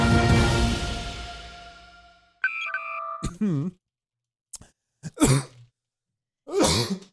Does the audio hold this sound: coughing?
yes